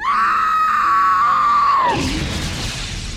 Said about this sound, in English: She found the chamber, rushed inside, and screamed out in horror at the sight of her burning child interrupting the ritual.